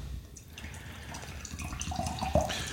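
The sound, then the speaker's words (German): Water pours steadily into a glass, a continuous splashing trickle with a small clink near the end. No one speaks. “Boah, jetzt mal einen kleinen Schluck Wasser, bevor wir hier starten.”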